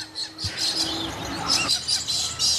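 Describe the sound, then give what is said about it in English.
A busy chorus of birds chirping and singing, with overlapping high tweets and trills filling the whole stretch at a steady, moderate volume and no voices. “Looks like they're covering birds now.”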